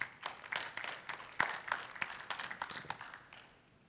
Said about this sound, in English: Can we get a clap for him, please?